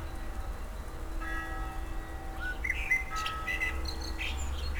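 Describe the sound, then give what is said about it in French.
A blackbird sings in short, bright phrases over a steady low rumble of a nearby car, with a faint sustained ringing tone in the background. “La voiture côtoie le merle.”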